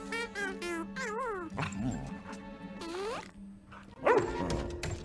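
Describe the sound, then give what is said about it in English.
A dog gives a continuous run of high, whiny barks and yelps, the pitch bending up and down, ending with a sharper, louder bark. “Can you not yell at my dog?”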